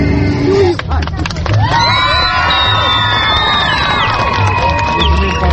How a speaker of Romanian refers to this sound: Primarul, împreună cu mitropolitul Moldovei, au împărțit iconițe cu chipul Maicii Domnului, provocând astfel o îmbulzeală din care abia de au reușit să iasă.